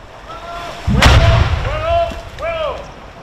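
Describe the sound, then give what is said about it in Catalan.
A single muffled explosion booms as an 81 mm mortar bomb is detonated by a Spanish Navy diving unit in the water a few metres from the shore at Calablanca beach. Its deep rumble rolls on for about half a second, with thin, high, wavering cries sounding before and after. “L'artefacte ha estat desactivat aquest dimecres migdia per la unitat de busseig de l'Armada Espanyola, que l'ha fet explotar dins l'aigua a pocs metres de la vora, on s'ha pogut veure i sentir una petita explosió.”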